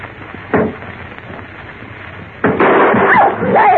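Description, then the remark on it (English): A muffled thump, then after a pause a loud gunshot, fired point blank, blasts through a door, leaving a noisy, ringing clatter with shrill squealing tones trailing behind it. “I fired point blank at that door.”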